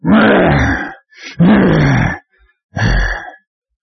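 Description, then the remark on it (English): A voice imitates a lion's growl with three loud, rough, throaty bursts, deep and gravelly, separated by brief breaths; the last growl is shorter and ends in silence. “A roaring lion who's growling, who's prowling, who's ravenous, who's roaming, who's trying to get you to look back.”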